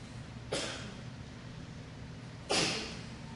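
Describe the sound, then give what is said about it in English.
Two sharp sneezes about two seconds apart, each a sudden burst that quickly fades, with a steady low hum in the background. “Bless you.”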